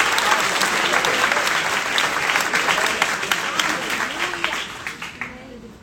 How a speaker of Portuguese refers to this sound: Você consegue aplaudir ao Senhor pela sua palavra agora?